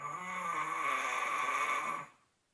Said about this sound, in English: My wife recorded my snoring and it sounded pretty intense. You know, it's pretty loud and it's got to be annoying.